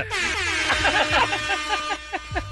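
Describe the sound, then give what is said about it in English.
Several loud horns blare at once in a dense, overlapping chorus, with sustained blasts and a few shorter honks near the end, brassy with no talking. “You guys, a lot of horns.”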